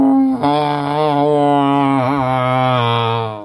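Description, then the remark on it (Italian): A person mimics an elephant's trumpet without a tube, one loud, sustained, brassy blare held for about three seconds, wavering briefly near the end. No one speaks. “Tentativo di barrito, già sono pronto a farlo, però non c'era il tubo.”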